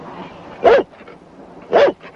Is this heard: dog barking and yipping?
yes